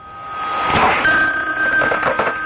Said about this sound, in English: you'd better answer the phone.